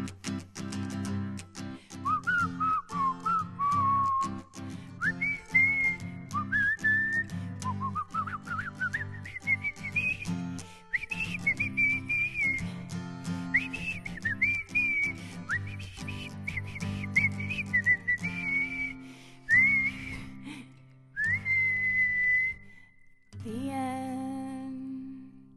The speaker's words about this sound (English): Oh, it's so hard to keep quiet through that, especially the whistling.